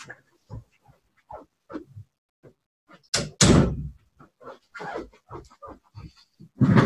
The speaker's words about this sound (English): so I just want to close the door so we're not interrupted. One sec.